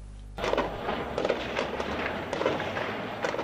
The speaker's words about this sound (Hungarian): A városban fegyverropogás hallatszik, a külváros egy része lángokban áll.